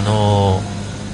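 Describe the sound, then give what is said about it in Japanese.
A car engine drones steadily with a low, even hum for about half a second, then drops away into quieter outdoor background noise, heard from the front yard of an apartment at midday. “こうやって車の音もしてますけど、今はどうやって撮ってるかというと、これ僕のいるアパートの前庭ですね。”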